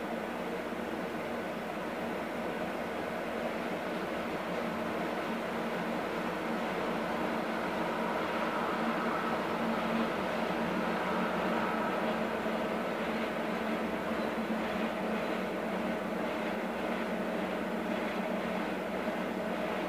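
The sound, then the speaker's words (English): A train rumbles past in a steady, continuous roar with a low droning hum, holding nearly constant loudness throughout and no voices. “The trains that come by here are weird.”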